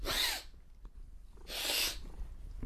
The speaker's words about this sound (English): But my cat hates it when I sniff. Watch this.